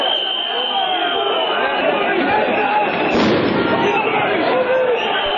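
A loud, dense crowd of opposition Democratic Front supporters roars and shouts throughout an evening protest clash with police in Podgorica, Montenegro, and a sharp blast from a police stun grenade bursts out near the middle before the clamor carries on; police also used tear gas.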